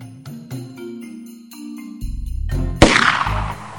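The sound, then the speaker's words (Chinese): A loud, sharp gunshot cracks out near the end as a man fires toward the woods, followed by a noisy rumbling burst of rapid shots from all around a wooden stockade, all over a tense, droning musical score with rhythmic low thumps. “琼斯突然对着树林开枪，木寨四周立即传出连串的枪声。”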